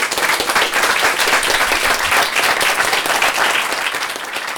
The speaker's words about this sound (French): Et en fait, sans vous, public, nous, ce soir, on ne serait pas sur scène. Donc vous pouvez vous applaudir. Merci d'être venus.